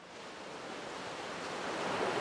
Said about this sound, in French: Bain de minuit à l'issue d'une soirée trop arrosée. Les vagues se cassent sur mes jambes nues.